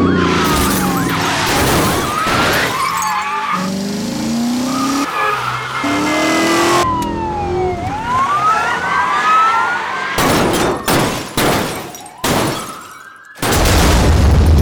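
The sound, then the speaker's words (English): A loud, busy car chase from the Car Chase Elements sound effects library by Blast Wave Effects: engines roaring, tires squealing and skidding, and wailing sirens sweeping up and down, followed by a series of sharp, sudden bursts near the end. “Buckle up and feel the need for speed with Car Chase Elements.”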